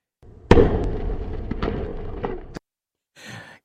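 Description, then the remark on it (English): A Blue Origin New Glenn rocket explodes on its Cape Canaveral launch pad during a static fire test, its first stage partially fueled with liquid methane and liquid oxygen: a sudden loud blast, then about two seconds of heavy roaring rumble with sharp crackling pops, abruptly cut off, followed by a short breathy exhale. “There's been what appears to be an explosion on the new Origin launch pad.”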